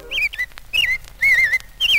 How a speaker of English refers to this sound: Look, that bird right over there is a robin. I know because she has a red breast. All robins have red breasts. Just listen to her sing.